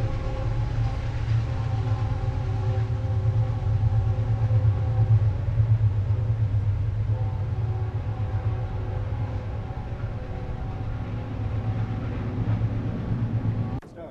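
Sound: train running past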